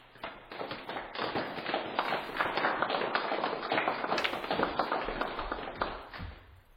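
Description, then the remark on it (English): A modest round of scattered clapping from a small crowd, steady for several seconds and then tapering off slightly at the end, with no voices over it. “A smattering of applause breaks out.”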